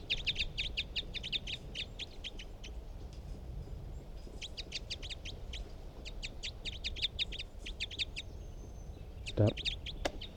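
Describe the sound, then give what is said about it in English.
Recorded calls of bird number 360 come in rapid runs of bright, high chirps, three quick bursts repeated over steady low background noise, with a brief louder thump near the end. “Recording bird 360.”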